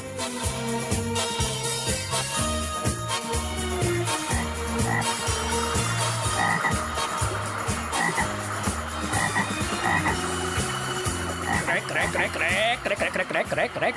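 A dense chorus of frogs croaking in a pond, many overlapping rhythmic croaks pulsing steadily and loudly for the whole stretch, with no pauses.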